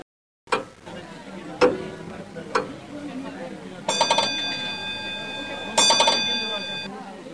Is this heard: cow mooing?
no